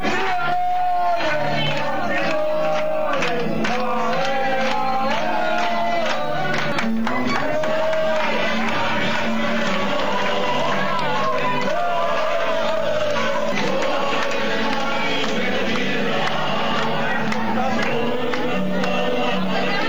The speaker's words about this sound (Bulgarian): Чуйте с какви възгласи с нощи в София група испанци посрещнаха победата на техните сънародници.